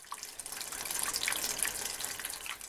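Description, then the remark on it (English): Water from a farm's drip irrigation system drips directly onto crops, trickling and pattering steadily, with small droplet splashes scattered through a continuous hiss, moderately quiet, with no voices. “drip irrigation, which is an alternative to sprinklers that drips water directly onto certain crops instead of watering the entire area.”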